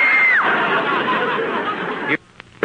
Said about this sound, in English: I screamed.